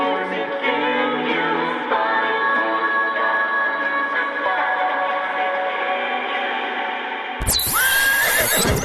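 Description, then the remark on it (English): A loud, unbroken stream of horse neighing and whinnying, with overlapping calls layered for about seven seconds before the sound abruptly shifts into a brighter, harsher burst at the end. “Horse Radio. It's like a constant stream of snow pity flowing directly into your ears.”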